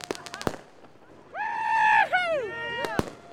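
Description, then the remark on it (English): Sharp fireworks bangs go off at night in a quick cluster at the start, lighting a dirt-jump mountain bike course where riders celebrate, then loud whooping voices rise and fall before two more crisp pops close it out. “celebrated by riding late into the night, using car headlights, cell phones, and fireworks to light up the course.”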